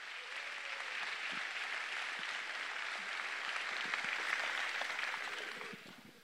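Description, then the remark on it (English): Sustained applause from the audience at a student concert presentation, a dense wash of many hands clapping at a steady, fairly loud level for about six seconds before starting to fade at the end. “And I will be back later in the program, but a big round of applause and grateful gratitude for all your support.”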